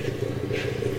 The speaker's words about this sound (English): is the sound of a protective matriarch. That little rumbling is Stephanie, the Sedgwick County Zoo's 55-year-old African elephant.